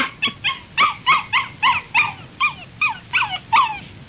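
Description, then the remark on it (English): A little puppy, glad to see people, whimpers and yips in a quick, steady series of about a dozen high, squeaky cries, fairly loud, with no voices over it. “The little pup's just glad to see us, that's all.”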